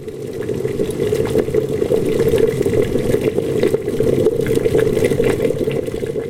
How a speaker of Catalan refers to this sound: Primer posem a bullir aigua dins la olla.